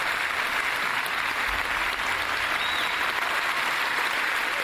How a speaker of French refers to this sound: On voit le grand producteur Harvey Weinstein. Voilà, film hommage, où tout le monde applaudissait debout, les Harvey Keitel, les Quentin Tarantino.